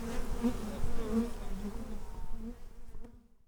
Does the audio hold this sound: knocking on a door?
no